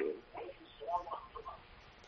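A television plays faintly in the background of a caller's phone line from Sudan, its muffled, tinny voices murmuring unevenly for about two seconds with no clear nearby talker.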